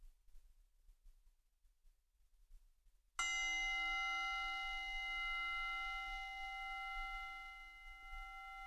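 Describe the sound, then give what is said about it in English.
After about three seconds of near silence, a single meditation bell is struck once to conclude a meditation sitting, ringing out with bright layered overtones that sustain and slowly fade over several seconds, with no voices. “And we conclude this meditation sitting with a bell.”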